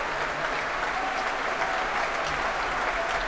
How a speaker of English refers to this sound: Returning to the stage now to soak up some more of that applause, bringing the woodwind section to their feet.